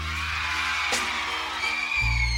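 A loud, continuous wash of concert audience screaming and cheering fills the space, steady throughout with a brief sharp burst near the middle and a deep low rumble swelling at the end.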